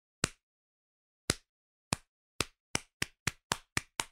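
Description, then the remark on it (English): A slow clap: about ten sharp, crisp hand claps that start widely spaced and steadily speed up into a quicker rhythm. No one speaks. “A classic rom-com slow clap.”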